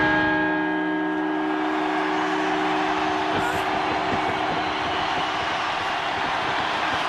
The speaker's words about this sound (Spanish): Pero que llevamos 50 campanadas. Total. Ya, ¿no? Así todas de golpe.